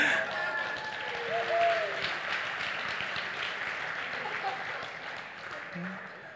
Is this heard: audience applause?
yes